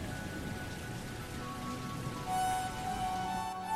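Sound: heavy rain pouring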